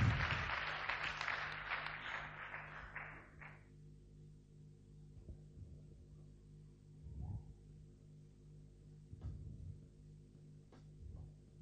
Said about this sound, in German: Das war so super, das war doch toll vorhin auf der Gitarre. Gib dir mal einen Beifall, das war so stark.